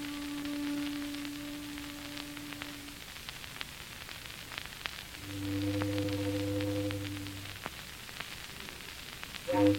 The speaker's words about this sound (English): Foghorns always have to sound so mournful.